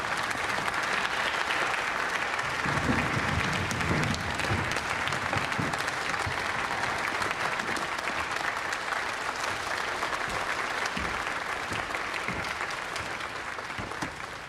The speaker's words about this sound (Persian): گوش به فرمان نقابداران، تشویق.